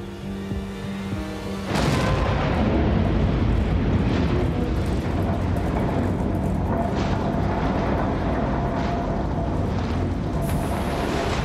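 A low, steady hum gives way after about two seconds to a sudden huge explosion, followed by a sustained, roaring rumble with crackling bursts that stays loud until the end, as debris falls into water.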